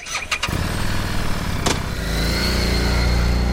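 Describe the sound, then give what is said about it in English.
A Harley-Davidson Street 750 motorcycle engine cranks and fires up, then settles into a steady, low exhaust rumble that swells slightly partway through, with no talking. “Now listen to the Street 750.”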